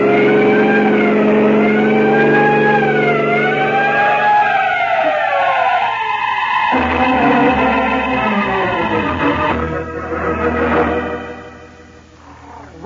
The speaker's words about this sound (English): Yeah, there are some trucks ahead, Peter. Sound your siren.